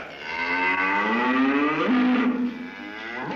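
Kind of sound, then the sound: animal, cow mooing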